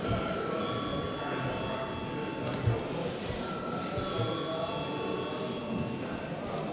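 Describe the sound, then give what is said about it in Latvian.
A parliament chamber bell rings steadily throughout after debate is closed, ahead of a vote on a proposal: a sustained bright electric tone holding over a low murmur of voices and shuffling. “Lūdzu zvanu.”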